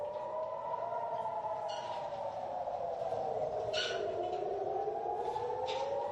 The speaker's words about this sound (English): There now, can we hear the air sirens going off? Is that in Gaza?